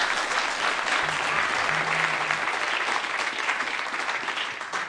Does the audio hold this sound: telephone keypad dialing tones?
no